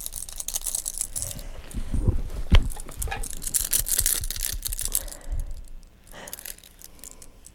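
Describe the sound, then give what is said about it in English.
A bunch of keys jangles as a mother shows them to a baby during play, with irregular metallic clinks and rattles shaken for several seconds, a sharper clatter partway through, then fading out. “How about the keys?”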